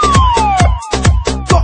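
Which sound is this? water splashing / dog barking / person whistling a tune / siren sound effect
siren sound effect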